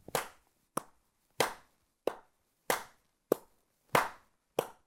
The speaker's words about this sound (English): The third aspect of rhythm, feel, has to do with whether individual pulses within a beat are emphasized or not. A simple example of this is if I accent the 1 and 3 of our 1, 2, 3, 4 clap.